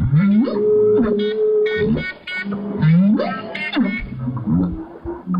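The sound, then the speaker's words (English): Whale song: a series of low, tonal calls, each swooping upward in a whoop and then sliding back down, repeating several times, loud and continuous with no voices. “It was doing this thing where it would go whoop and then down and whoop and then down.”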